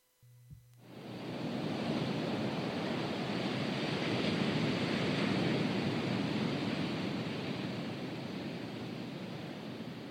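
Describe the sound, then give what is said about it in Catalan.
A steady, broad wash of surf fills the scene, starting abruptly after a brief low hum and continuing as a dense, roaring rush of waves without any voices. “El mar, ese gran símbolo de paz y tranquilidad para muchos, se está viendo cada vez más contaminado por plásticos.”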